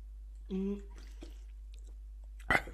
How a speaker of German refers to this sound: Ja, und ich hoffe, dieses Schlucken ist mit drauf, weil das so abartig ist.